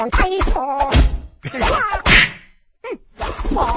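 A kung fu fight sound effect: sharp whacks and thuds come in quick bursts, mixed with strained vocal grunts and a swishing blow, with a brief pause before a final flurry.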